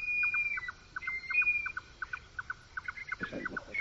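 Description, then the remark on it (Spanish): A red-necked nightjar's churring call: a steady, rapid series of hollow knocking notes repeated in a rhythmic chain, moderately loud, with a thin high whistle in the background and no talking. “Y al fondo uno que hace traca-traca, como tú dices, sí. Ese es otra ave nocturna que es el chotacabras pardo.”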